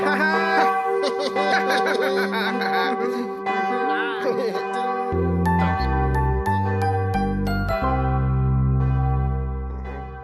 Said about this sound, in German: Super. Klingt eigentlich ganz hübsch, so eine Glocke.